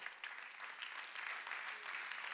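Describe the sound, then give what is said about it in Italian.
Steady, dense applause from a crowd, a continuous bright crackle of many hands clapping at an even level with no pauses and no voices on top. “Fai questo applauso forte.”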